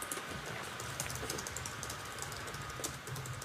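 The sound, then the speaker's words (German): Rapid, continuous clicking of keys on a computer keyboard, fairly loud, with irregular bursts of keystrokes and no one speaking. “Man hört mich laut tippen, oder?”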